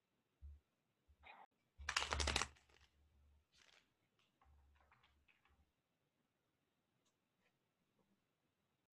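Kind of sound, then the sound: household object, shuffling tarot cards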